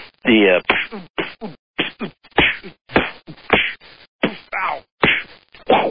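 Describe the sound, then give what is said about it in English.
A voice imitates a flurry of punches, like somebody hitting someone really hard: roughly a dozen sharp, breathy whacks and thwacks in quick irregular succession, loud, with no other talking. “Now, those are some awesome punches.”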